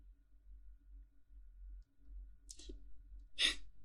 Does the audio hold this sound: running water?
no